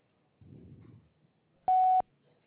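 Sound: voicemail recording beep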